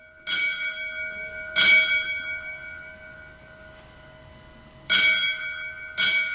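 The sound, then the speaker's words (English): A bell is struck four times at uneven intervals, each clear metallic strike ringing on with a long sustained tone between hits, heard alone without any voices; bells rung as the last alarm for a fire lieutenant at his funeral at St. John's Catholic Church in Worcester. “They rang bells as a symbol of his last alarm.”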